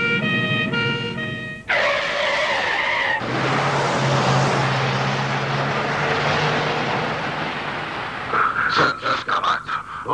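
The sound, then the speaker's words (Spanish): A police patrol car's tyres screech in a long skid over a siren's wail as a black sedan swerves into it, then broad rumbling noise as the patrol car is forced off the road, ending in a burst of rough, crunching impacts. No one speaks. “però el sedan negre, de cop, fa un moviment brusc, gira contra el cotxe patrulla i l'obliga a sortir de la carretera.”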